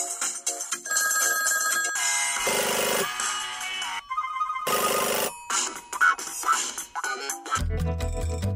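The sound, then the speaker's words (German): The bell of an old crank telephone, made to ring by a sound-effects artist, rings loudly in repeated jangling bursts with short pauses between them, followed by a low rumbling clatter at the end. No one speaks. “Ein Kurbeltelefon ist eben kein Handy.”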